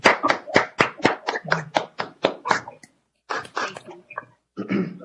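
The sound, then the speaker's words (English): A short burst of applause, given as a virtual round of applause welcoming a new staff member at the NSHE system office: sharp, evenly spaced claps at a brisk rhythm for a few seconds, a brief pause, then a few more scattered, uneven claps. Moderately loud, no talking. “I'd just like to give him a warm welcome, if we could, a awkward virtual round of applause”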